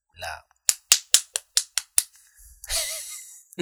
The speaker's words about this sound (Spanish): La aplaudida. Estamos aplaudiendo, todo bien chévere.